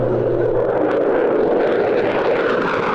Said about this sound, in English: That's an F-35A Lightning II fighter jet. It's cruising with a partner around the skies of the River Valley in a show to the media and select community members at Ebbing Air National Guard Base.